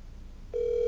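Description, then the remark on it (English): A phone call plays over a speakerphone: after a low background hum, a steady, single-pitched electronic ringing tone starts halfway through and holds loudly to the end, with no one talking. “Put it on speaker so everybody can hear this.”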